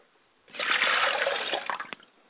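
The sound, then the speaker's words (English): Water pours steadily into a glass for about two seconds, a bright splashing stream that tapers into a few last drips and dribbles. No voices are present. “I set a glass of water up for my mother's spirit, and I say, Ashe.”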